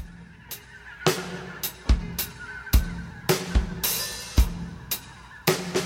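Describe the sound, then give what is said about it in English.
Loud, harsh bird calls repeat every half second or so in an uneven rhythm, honking squawks that dominate the mix, with no one talking, heard in the background of an exotica music track. “Once again, we get that Exotica thing with like the birds in the background.”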